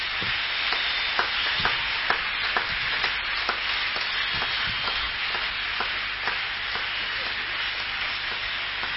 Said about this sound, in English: All of you that fasted today, if you didn't fast, fold your hand like this. Those of you who fasted, clap for yourselves very well.